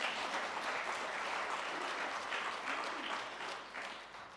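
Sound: audience clapping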